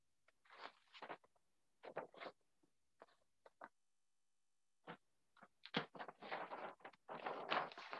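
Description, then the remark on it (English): Paper rustles and crinkles in irregular bursts as someone shuffles through notes looking for them, with short scattered handling sounds at first and then longer, denser stretches of crackling shuffling toward the end. No one speaks. “You can hear my paper rustling.”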